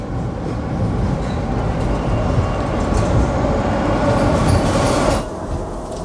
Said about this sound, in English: You wait until his subway car zooms away.